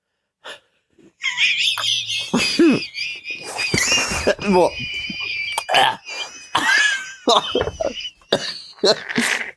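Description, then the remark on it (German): Someone chokes on a drink that went down the wrong way and breaks into a loud, drawn-out coughing fit: harsh, sputtering bursts in an uneven rhythm, broken by strained gasps and throaty wheezes. “Was ist die falsche Röhre gekriegt?”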